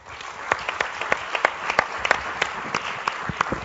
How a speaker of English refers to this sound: If we could have one more round of applause for our wonderful panel here this evening. And along with our tremendous moderator, the lightning round was a bonus.